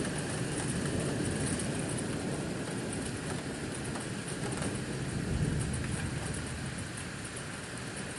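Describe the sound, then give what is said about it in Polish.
Heavy rain pours steadily outside a window facing a garden, a dense, constant hiss and rush that stays loud and unbroken for the whole stretch, with no voices. “Tu już bardziej słychać, jak deszcz leje.”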